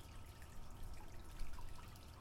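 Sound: water dripping and trickling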